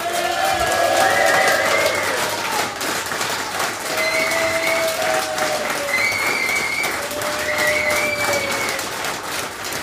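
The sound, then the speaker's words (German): A large audience claps loudly and steadily for a guest for the full stretch, a dense wash of applause with several sharp whistles and a few cheers rising above it. “Ich würde sagen, wir geben jetzt nochmal den lautesten Applaus des heutigen Abends für unseren Gast.”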